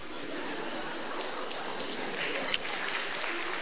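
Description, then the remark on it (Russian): Steady, dense applause from a sizable crowd fills the whole stretch, a continuous patter of many hands clapping at an even loudness with no voices rising above it. “Это вы аплодируете тому, что я мазохист, или тому, что я подвиг совершил?”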